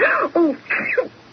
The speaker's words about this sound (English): Bless you, my dear.